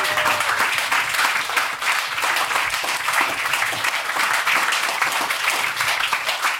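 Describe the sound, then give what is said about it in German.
Sustained applause from a sizable audience at an event for a female artist called to the front, dense clapping that stays loud and steady for several seconds with no one speaking. “Einen fetten, fetten Applaus für unsere Künstlerin, für die”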